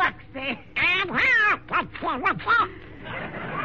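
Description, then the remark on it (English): A voice imitates Donald Duck, a stowaway found in an apple basket, letting out a run of raspy, nasal quacks in quick uneven bursts, loud, with a squawky, sputtering rise and fall. “It's a darling little duck.”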